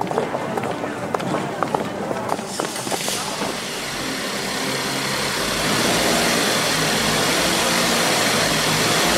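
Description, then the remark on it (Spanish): A few seconds of clattering knocks give way to the engine of an elegant old black car running steadily as its elderly chauffeur drives two young women to a mansion, a continuous, fairly loud rumble and road hiss filling the rest. “Ambas jóvenes se dirigen en el coche negro a la mansión.”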